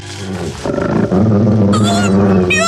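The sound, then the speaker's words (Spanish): A gigantic wolf approaching in the shadows of the night gives a loud, deep growl that rumbles continuously for a few seconds, menacing, swelling into a harsher snarl partway through, with no voices present. “De pronto descubre entre las sombras de la noche a un gigantesco lobo que se acerca gruñendo amenazador hacia Calimán.”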